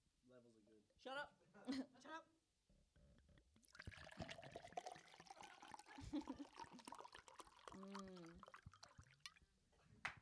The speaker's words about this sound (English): Like, no one is this indulgent to start a podcast pouring water into a glass. Into a glass.